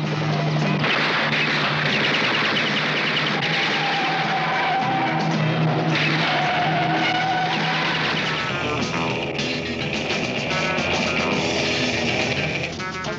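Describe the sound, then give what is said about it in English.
Sports cars race, engines roaring continuously and whining up and down with squealing tires skidding through turns, the dense loud mix sustained throughout without pause; the racing is tied to the character Diabolik, a master sports car racer. “Master sports car racer.”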